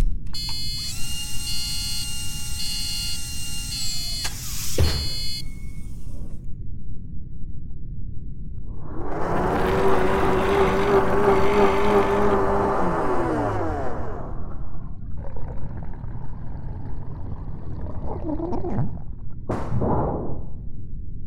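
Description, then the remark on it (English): A giant blender grinds and whirs loudly for several seconds as a clone is recycled, a harsh churning roar with a rising mechanical whine. Quieter electronic hums and a few sharp whooshes come before and after it. “There goes another clone right into the blender.”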